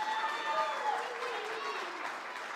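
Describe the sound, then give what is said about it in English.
A crowd claps together in sustained applause for a man, a dense steady patter of many hands at an even level throughout, with a faint murmur of voices mixed underneath. “So if we could just give him, actually, let's just give him a round of applause.”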